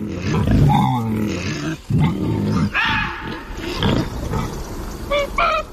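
Loud wild boar grunts and snorts, rough guttural sounds tumbling over one another in a steady series with brief pauses, and a few higher squeals near the end.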